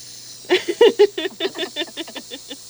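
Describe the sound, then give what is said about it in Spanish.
A bottle of mineral water being opened slowly, its gas escaping in a string of short, sharp hissing spurts that start strong and gradually taper off, with no talking. “Voy a abrir mi agua mineral, entonces.”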